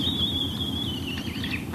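Great horned owls calling while mating: a thin, high-pitched squealing whine holds steadily, then wavers and warbles near the end, over a low background rumble. No one speaks.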